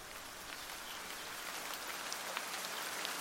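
Steady rain falls, a dense hiss of droplets with scattered brighter taps and patters on a surface, continuous, with no voices.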